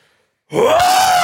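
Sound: imitated lion roar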